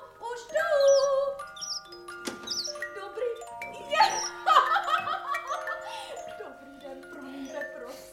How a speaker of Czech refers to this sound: Neslyšíte, někdo zvoní? Ano, milost pane, už jdu.